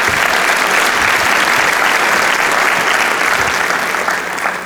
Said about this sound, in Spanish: Un aplauso a Dios.